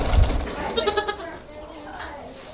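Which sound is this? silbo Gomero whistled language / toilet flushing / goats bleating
goats bleating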